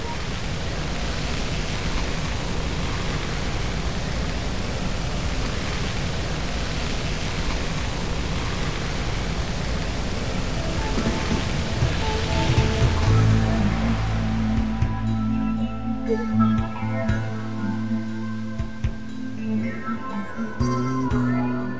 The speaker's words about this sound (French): Même en l'absence d'activité biologique, on peut percevoir des bruits d'origine naturelle. Mouvement de la houle, courant, embouchure de rivière.